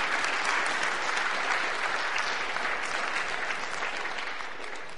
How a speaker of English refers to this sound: Now we applaud.